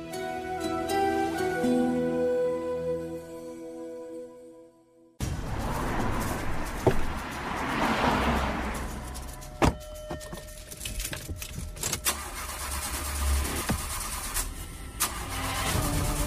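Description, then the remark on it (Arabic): After a few seconds of music, keys jangle and a car engine cranks over and over, sputtering without catching, with sharp clicks and rattles. No one speaks. “يا هي سالفة ما بغت تخترب غير الحين.”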